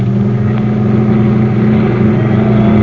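A loud, steady engine drone with strong low-pitched harmonics holds throughout, a milk truck's motor running hard as it pushes ahead after a car, continuous with no pauses or talk.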